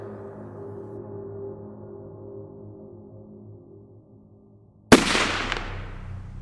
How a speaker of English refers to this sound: The first gunshot cracked the chamber in two.